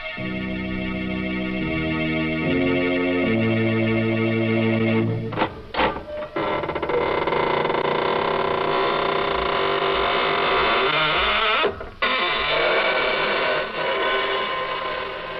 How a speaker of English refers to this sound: This is your host of the Inner Sanctum. Welcome through the squeaking door.